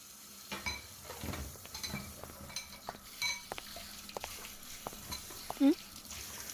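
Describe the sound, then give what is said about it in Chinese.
Bowls and chopsticks being washed after a meal: scattered ceramic clinks and knocks over a soft, steady wash of background noise, with a brief squeak near the end. “不是跟你说碗不用洗吗？”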